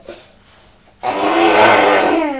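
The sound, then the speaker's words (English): A child imitates the noise a vacuum cleaner makes when switched on, a loud, buzzy, humming drone that starts abruptly after a second of quiet and holds steady, wavering slightly, until the end. “Yes, when you switch it on, it makes that noise, but it's not plugged in at the moment, is it?”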